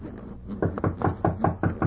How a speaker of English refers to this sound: Hark, someone knocks. Quick, to our looms. Pretend to weave.